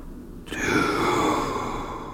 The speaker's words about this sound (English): That's Nosferatu there, doing a bit of heavy breathing towards the end.